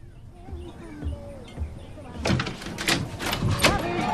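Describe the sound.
A few soft footfalls cross a bedroom, then a burst of clattering and clunking as the locked bedroom door's latch is worked and the door swings open, with faint voices in the background.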